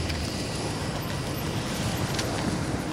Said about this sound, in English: From around the corner, a Hummer and patrol car came racing towards us.